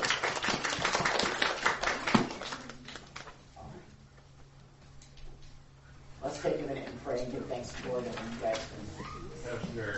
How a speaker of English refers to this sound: Well, you made it. You give yourself a round of applause. Woo!